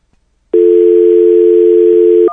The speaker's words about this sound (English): Okay, phone malfunction.